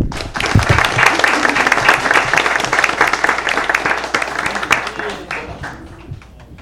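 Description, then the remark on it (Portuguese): A crowd at a town council session gives a round of applause for the rural workers of Martins Soares, dense rapid clapping that stays loud and steady for several seconds before thinning and tapering off near the end. “E quero pedir a todos vocês uma salva de palmas para todos os nossos trabalhadores rurais de Martins Soares.”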